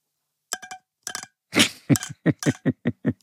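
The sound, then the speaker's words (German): A corncrake's (Crex crex, a rail) call imitated with a trimmer attachment held in the hand: dry, rasping, clicky bursts repeated in a quick, fairly regular series, starting with a few sharp ticks and building into steady scraping pulses. “Ja, das ist wieder ein Trimmeraufsatz”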